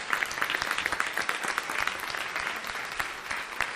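A steady burst of group applause, many hands clapping in a dense, continuous patter with sharp individual claps standing out, lasting a few seconds with no voices over it.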